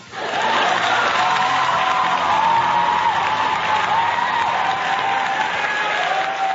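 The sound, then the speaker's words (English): A crowd applauds steadily at the opening of The 2A Radio Show, dense clapping rising quickly and holding at a loud, even level throughout, with a faint whistle or cheer tone running through it and no speech. “Thank you for that wonderful round of applause.”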